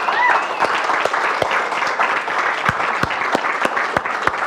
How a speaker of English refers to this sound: How many moms do we have? Raise your hand. Okay, let's give our moms a round of applause.